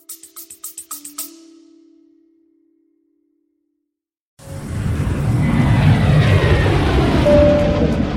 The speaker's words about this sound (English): Hey guys, yes, I'm on a private jet,